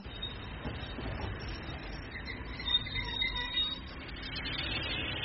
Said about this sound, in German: Es wird langsam Zeit. Wir kommen an. Alles ist gut gegangen. Ein ausgezeichneter Zug, nicht wahr?